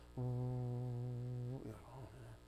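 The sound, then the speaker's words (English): A voice imitates the low hum planned for a venue's entrance, humming a low, steady droning tone for about a second and a half, loud, then breaks off into brief murmured vocal sounds. “And when you come in, there's going to be this low hum.”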